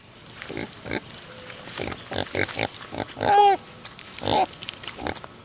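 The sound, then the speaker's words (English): A potbelly pig, pink with white hair and black spots and weighing 80 pounds, grunts and snorts repeatedly in short bursts, with a couple of louder squeaky squeals mixed in, all without any talking. “I own a potbelly pig named Pablo”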